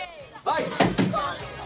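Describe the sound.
Two quick, solid knocks on a diner window, a short beat apart, sharp and fairly loud, with indistinct voices murmuring around them.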